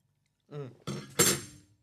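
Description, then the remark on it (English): Glasses of guava Doritos drinks clink together in a toast: two bright knocks, the second louder with a short ringing tail, just after a brief murmured voice. “Yeah, very nice. Cheers.”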